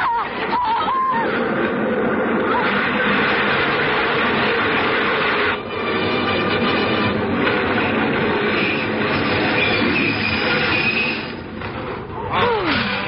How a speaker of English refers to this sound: The train was in.